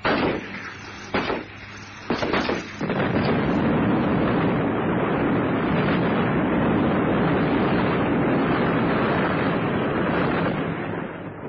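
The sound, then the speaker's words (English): A few sharp bursts give way to a sustained, loud, roaring blast that rumbles on for several seconds before easing slightly, as a helicopter hit in its fuel tank explodes in a ball of flame and crashes into the jungle. “The helicopter exploded in a bright ball of flame, and what was left crashed into the jungle for hundreds of yards all around.”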